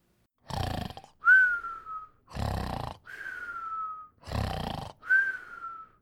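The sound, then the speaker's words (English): A voice imitates snoring three times at a steady pace, each a rough, raspy inhale followed by a thin, falling whistle on the exhale, fairly loud with no other talk. “Again? Snore!”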